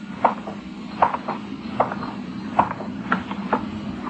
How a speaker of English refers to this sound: I looked around. I was alone. The street was dark, deserted. There was a neon light a block away, and I started toward it. My footsteps echoed in the quiet street. Or was it an echo?